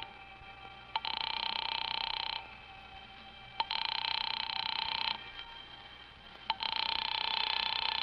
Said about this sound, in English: There's no answer. Shall I keep ringing, sir?